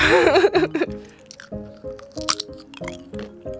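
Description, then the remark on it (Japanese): A brief voiced sound opens, then crunchy chewing of a large nori-and-soy-sauce-flavoured Baby Star snack, about 5 cm across, follows in a steady rhythm of crisp, repeated bites, fairly loud. “早速いただいていきます。 こちらはね、海苔醤油味だそうです。いただきます。”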